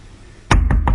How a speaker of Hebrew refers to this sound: פתאום הרב ישראל שומע דפיקה בדלת, מסתובב אחורה,